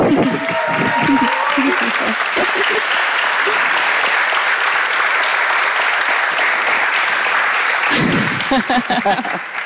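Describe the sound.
A crowd applauds steadily for several seconds, a dense, loud wash of clapping, with bits of speech at the start and again near the end as the clapping tapers.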